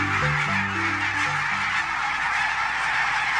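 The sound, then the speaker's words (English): A flock of barnacle geese honking and yapping together, a dense chorus of overlapping calls with strong low tones early on, steady, no talking. “Barnacle geese are stunning birds.”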